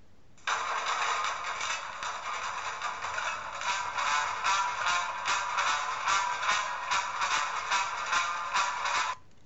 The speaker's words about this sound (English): From the theme tune to Stingray.